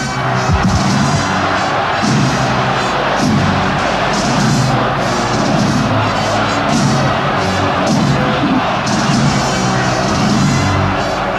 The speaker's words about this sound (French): Et tout le long du parcours, la foule encore, agitant des mouchoirs en signe d'adieu et scandant le nom de Franco.